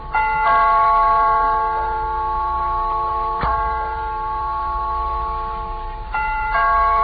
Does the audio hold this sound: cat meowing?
no